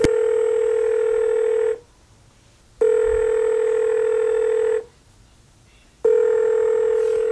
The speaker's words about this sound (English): So I dial my phone.